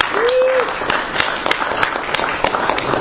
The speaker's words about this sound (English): Can we applaud? Sure. If you'd like to.